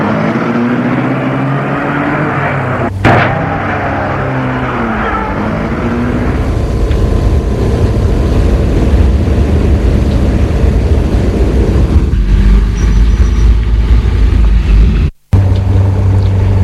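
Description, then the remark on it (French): A car drives along on a trip to school, with a loud engine rumble and road noise, its engine tone climbing at first, a brief thump early on, then a steady drone until it cuts off abruptly. “Et entre dans la voiture.”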